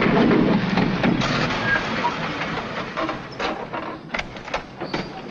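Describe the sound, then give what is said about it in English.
A heavy armored truck rumbles loudly and steadily, its engine noise and road hiss gradually easing as it slows and pulls off an isolated mountain road, with a few clanks near the end and no voices. “An armored truck pulls off an isolated mountain road.”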